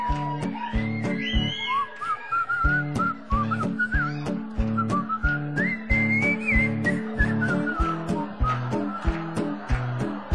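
A bright whistled melody from a cover version of a song by an Australian performer runs throughout, rising and wavering over a steady, loud backing of bass and thumping percussion, with no talking.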